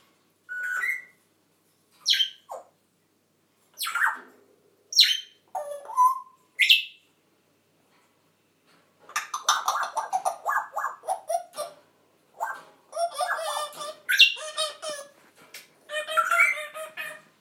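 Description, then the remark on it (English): Pet parrots, including one named Frankie, call out in a string of sharp, squawking bursts, first a few isolated cries, then a dense, overlapping chatter of several birds squawking and whistling together. No one speaks. “I know I've done lots of parrot boos, but it's so nice to hear Frankie joining in with the rest of them today.”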